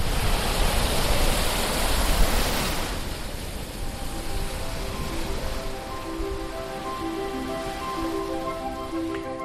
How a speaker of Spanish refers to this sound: disfrutan de sus paseos con el sonido del Mediterráneo de fondo.